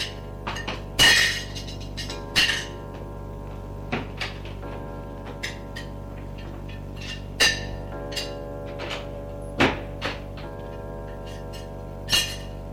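Dishes and glassware clink and clatter as a man puts them away in a kitchen, with irregular sharp knocks and a cupboard thud or two, amid a steady low hum and no talking.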